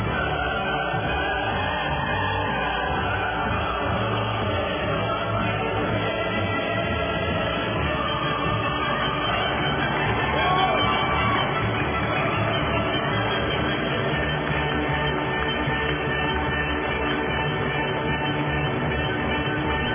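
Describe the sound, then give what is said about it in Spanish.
Steady applause fills the whole stretch, mixed with the Ode to Joy anthem swelling underneath, played on a radio show for good news, loud and continuous with no talking. “Son buenas noticias y se merecen el himno de la alegría y los aplausos.”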